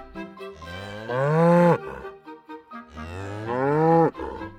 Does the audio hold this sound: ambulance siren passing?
no